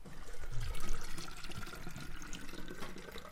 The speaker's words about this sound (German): Die Flasche mit dem Wasser klingt viel höher wie die Flasche ohne Wasser. Viel heller. Jetzt füllen wir noch mehr Flaschen mit Wasser.